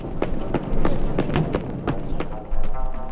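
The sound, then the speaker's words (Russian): High heels tap on grey asphalt in a steady walking rhythm on a sunny spring day, a series of sharp clicks over a low outdoor rumble, with no one speaking. “И серый асфальт дымится. И как стучат по нему каблучки.”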